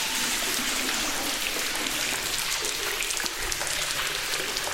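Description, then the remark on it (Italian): Water runs steadily off concave roof tiles set up as a fountain, a dense, continuous splashing and trickling hiss that stays even for the whole stretch, with no voices. “Ed ecco la fontana, cioè questa è la fontana, sono le, no, di queste tegole che vengono predisposte, le prime sono concave e quindi ricevono l'acqua. Ovviamente qui c'è una perdita enorme d'acqua.”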